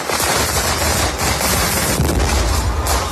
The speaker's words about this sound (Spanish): porque entre las diferentes mascletas y las diferentes explosiones, en redes sociales se ha hecho viral una que ocurrió anoche. Una falla se fue completamente de madre, escuchamos.